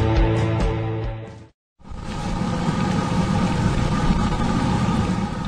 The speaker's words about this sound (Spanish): ¿Escuchas ese sonido? Sí, es el sonido de la perfección frita. Una masa elástica y brillante es estirada en una tira que llega a los casi 2 metros.